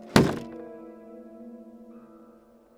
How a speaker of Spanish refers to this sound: Se colocó la chaqueta, abrió la puerta principal, cruzándola y cerrándola por fuera.